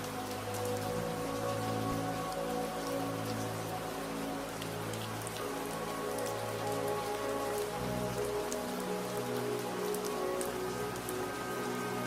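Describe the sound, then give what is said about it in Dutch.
Steady rain patters on a roof, with scattered individual drops tapping crisply over a continuous hiss, alongside a soft, low droning tone. No one speaks. “Je geniet ook van de rustgevende regen op het dak en de veilige, warme omgeving van dit huisje in de bergen.”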